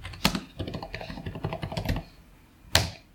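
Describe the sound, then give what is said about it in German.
Quick, uneven keyboard typing with bursts of clicks over about two seconds, then a pause and one sharp louder click, with no voices, as someone searches on Google and clicks a result. “ich muss jetzt auf Twilight klicken”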